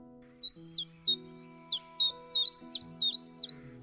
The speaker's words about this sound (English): There are lots of different types of warblers, but it's easiest to distinguish them by their song. A famous warbler is the chiff-chaff, whose song you can hear from the treetops, just like this.